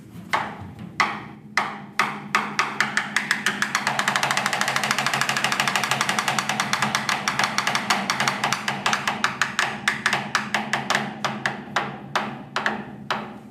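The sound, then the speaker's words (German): Hail imitated on an instrument: sharp, bright taps start sparse, quicken into a dense steady clatter, then thin back out to separate hits. No voices. “Oder ein bisschen Hagel.”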